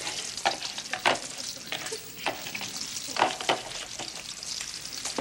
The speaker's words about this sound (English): Ignoring the spill, Archie pours some dressing into the bowl and tosses the salad with serving spoons.